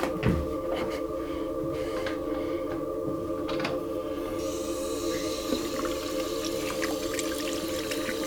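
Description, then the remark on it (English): Water runs steadily into a bathroom sink as a person splashes their face, broken by a few brief splashes and drips, over a constant low hum with no voices. “I splash my face.”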